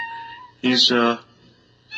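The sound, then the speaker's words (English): A cat in a cage lets out one loud, drawn-out meow lasting about half a second, with quieter background sounds before and after it. “Now, I don't know whether you can hear this guy or not.”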